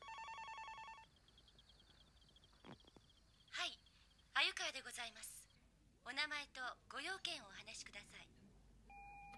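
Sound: telephone ringing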